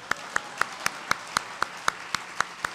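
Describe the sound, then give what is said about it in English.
An audience applauds the storytellers at a storytelling event: about eleven sharp, evenly spaced claps, roughly four per second, steady and moderately loud over a low background hiss, with no talking. “So let's take a minute to applaud all of the storytellers who have already told their stories who don't write for the Inlander.”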